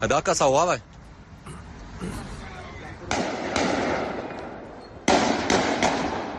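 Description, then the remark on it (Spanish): Several sharp bursts of assault rifle gunfire crack out in a street in Brussels, before a Sweden–Belgium football match, irregularly spaced and fairly loud, after a brief warbling siren-like tone at the start, with muffled voices and traffic noise underneath. “Un tipo con un fusil de asalto mató a balazos a 2 seguidores, luego hirió a un taxista y anda por ahí, ahora mismo buscado por la policía.”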